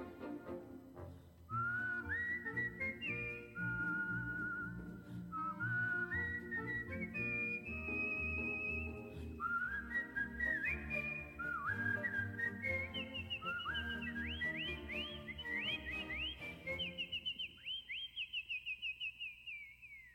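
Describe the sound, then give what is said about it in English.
A person whistles a bright, lilting tune in several rising phrases over steady instrumental accompaniment, clear, with the melody sliding up toward the end and no talking. “When they're sorely pressed, they whistle for a spell, and whistling seems to brighten up their day.”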